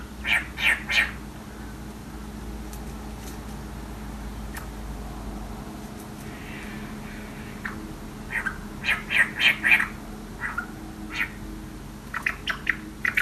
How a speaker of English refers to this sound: Eastern whitbirds chatter like this, talking to each other as they forage through the undergrowth.